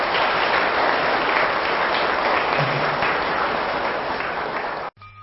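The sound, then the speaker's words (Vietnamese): Loud, sustained applause from a large crowd, dense and steady clapping, then cuts off abruptly near the end. “Hãy dâng cao một tràng vỗ tay thật lớn nào.”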